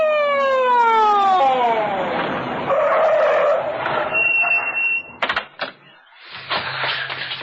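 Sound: ambulance siren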